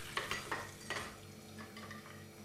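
Dishes and utensils clink against each other in a few quick knocks, with a soft rushing, watery wash continuing underneath, as someone washes the dishes while a birthday cake is being made. No one speaks.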